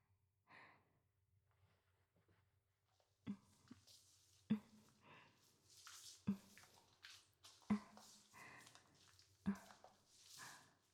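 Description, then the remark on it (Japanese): Soft, wet squishing of soapy lather being rubbed by hand on someone's back, with intermittent sharp little splats and breathy sighs between strokes, no talking. “それじゃ、泡つけるからね。”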